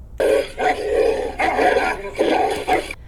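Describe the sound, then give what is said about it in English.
A dog barks aggressively, a loud run of harsh, snarling barks coming in quick bursts, with no one speaking. “After a dog attack, neither the person nor the guide dog will ever feel completely safe again, and in some cases, the dog may no longer be able to continue guiding.”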